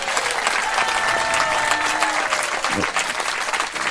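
A crowd claps steadily, the dense patter of many hands filling the whole clip at a loud, even level with no talking over it.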